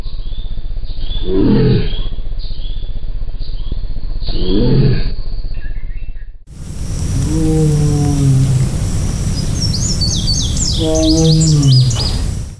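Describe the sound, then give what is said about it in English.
Two separate tiger long roars (long calls), one after the other. The first is a pair of deep, muffled moans; the second is a louder, fuller drawn-out roar with birds chirping faintly in the background. “So both of the sounds that we just listened to are something called a long roar or a long call, and it's what tigers use to communicate long distance with each other.”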